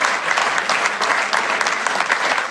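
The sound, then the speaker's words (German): Steady applause from a group, dense overlapping hand claps forming a continuous crackling wash at an even, fairly loud level throughout, with no voices. “Klatschen.”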